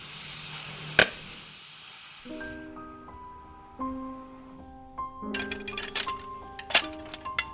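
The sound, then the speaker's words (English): A sharp glassy pop cracks through a steady hiss as a heated, very thin blown-glass bubble bursts during scientific glassblowing, followed by bright ringing tones and a few scattered tinkling clinks of thin glass shattering; no one speaks. “So we make it hot and we blow very hard, and a bubble will form, and so thin it will just pop.”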